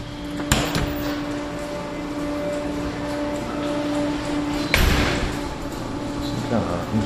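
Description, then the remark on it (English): Construction machinery whines with a steady, droning hum throughout, layered over a broad noisy rumble, with a couple of sharp knocks breaking through near the start and middle, heard in the basement of APH while construction goes on upstairs. “Machinery whining there.”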